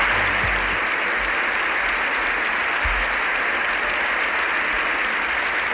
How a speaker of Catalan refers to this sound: Aquests aplaudiments han durat més de 7 minuts i haguessin pogut durar molt més fins que el papa ha marxat. Suposa l'ovació més llarga que s'ha fet mai fins ara a l'hemicicle.